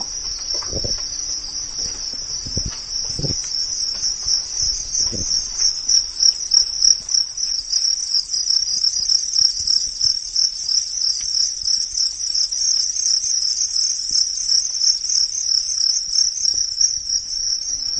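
A dense, continuous chorus of thousands of crickets chirping in a country attic in the Czech Republic where they are raised, many insects trilling at once in a steady high-pitched wall of sound, with a few faint knocks and taps early on and no talking.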